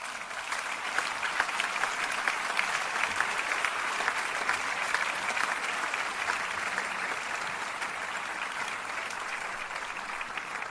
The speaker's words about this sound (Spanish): I crec que això també mereix un aplaudiment.